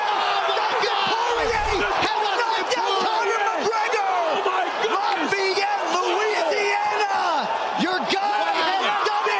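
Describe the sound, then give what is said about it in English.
Loud, excited voices of fight commentators, including Rogan, yell into microphones at the top of their lungs over a roaring crowd, the yelling nonstop and frantic for the whole stretch, with the crowd noise dense and constant underneath. “These guys are just screaming. They're just yelling into microphones.”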